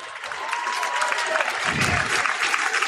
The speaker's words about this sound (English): Fans clapping because he has come to his seated position, still on the ground.